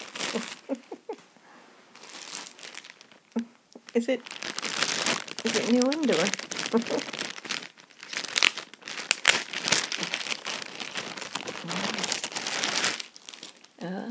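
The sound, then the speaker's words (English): Loud crinkling and tearing of wrapping paper as a gift is unwrapped, continuous and rustly for several seconds, with people talking and laughing briefly over it. “Okay, let me just get this paper off.”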